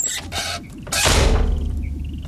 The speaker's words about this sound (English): I'm going to shut the door now